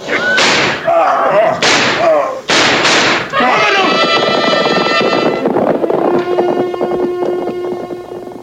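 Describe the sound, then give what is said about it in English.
Four loud, sharp gunshots crack out in the first three seconds, irregularly spaced, followed by a sustained, ringing tonal wash that slowly fades out. “Colonel Borders was lying on the ground unconscious with a bullet wound.”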